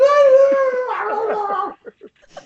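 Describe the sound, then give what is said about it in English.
A person imitates a group of creature clanmates howling as they all start on a halfling: a sustained, wavering, tonal howl that breaks into warbling yips, followed by a few short, breathy yelps trailing off at the end. “And they all fuck start him. Howling, going...”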